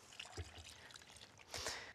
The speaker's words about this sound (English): Just going to add a little bit more water, because we want it to be slightly liquid.